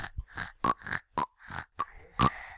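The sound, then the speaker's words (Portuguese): Two pot-bellied pigs grunt and oink in a quick, irregular run of about eight short, throaty bursts, fairly loud, with no talking. “Dois porcos barrigudos.”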